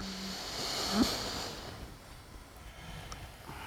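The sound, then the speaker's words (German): A slow, deep inhalation during a breathing exercise, breathing in through belly, chest and head: an airy breathy hiss that swells then fades over about a second and a half, fairly quiet with no talking, followed by near silence. “Atmet ein in den Bauch, Brust, Kopf und wieder aus.”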